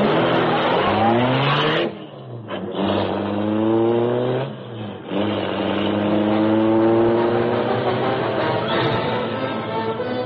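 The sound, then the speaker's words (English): The Black Beauty, the Green Hornet's sleek, superpowered streamlined car, roars loudly into life, its pitch climbing as it accelerates, dipping briefly twice as if shifting gears, then surging on in a sustained, steady rumble as it speeds away. “The great car roared into life. The wall in front raised automatically, then closed as the gleaming Black Beauty sped into the darkness.”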